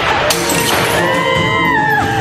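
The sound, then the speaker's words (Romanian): A woman grabs a faience plate and smashes it with a sharp, loud crash, then dances as the shards clatter and ring, scattering and settling. “A apucat o farfurie, a spart-o și a dansat țiganește, făcând bucățile de faianță să răpăie ca și cum castanietele ar fi de abanos și de fildeș.”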